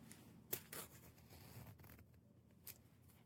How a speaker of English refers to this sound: Okay, so I think the first thing I'm gonna do is unzip my sweatshirt a little bit. Actually, yeah, it's too thick to really go over it. See if you can hear the zipper, I'm not sure.